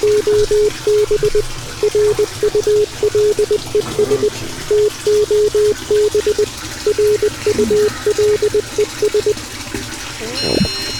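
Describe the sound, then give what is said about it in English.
A tap runs steadily in a continuous hiss of water, partly masked by a series of loud, evenly spaced electronic beeps in short bursts. A sharper splash comes right at the end. “Turn off the water.”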